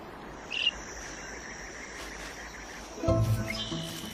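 A shrike, a small songbird known as the butcher bird, gives a short, harsh, buzzy call near the end, with a faint brief chirp earlier, over a steady background drone of crickets and insects in a desert.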